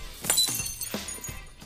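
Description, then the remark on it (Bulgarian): A glass cup shatters, a sharp crash followed by several smaller clinks and tumbling shards ringing out over under two seconds, with no voices. “А следващата чаша ще я щупя в главата.”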